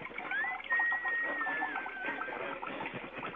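A toilet flushes with a steady, gurgling rush of water and a thin whistling tone gliding slightly downward on top, lasting the whole few seconds with no voices.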